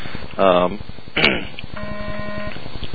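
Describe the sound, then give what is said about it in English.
Electronic beeping: a couple of short bursts followed by a steady, flat electronic tone held for under a second, moderately loud over a faint constant hum. “I'm beeping.”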